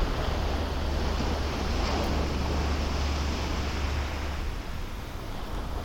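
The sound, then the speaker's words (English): Ocean waves wash steadily onto a shore in a continuous, rushing roar with a deep low rumble beneath, unbroken, with no voices present. “And now, before you leave this place, remember you can come back to listen to the water, to the sounds of life and creation, whenever you like.”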